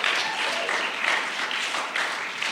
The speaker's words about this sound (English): Can you guys give a huge round of applause for everyone who attended?